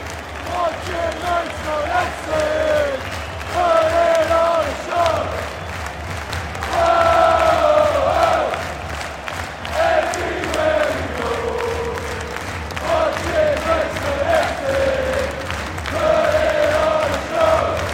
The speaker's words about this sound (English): The noise in this place, genuinely, I think that this lot are going to learn what a non-league supporting crowd is like, genuinely.